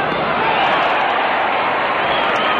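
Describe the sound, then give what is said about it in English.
A big baseball stadium crowd cheers in a loud, steady roar after a home run to deep right field by Maris Lacius Gonzalez, a dense wash of voices that holds at the same level for the full few seconds with no talking over it. “Oh, now she's crying because the people aren't cheering anymore.”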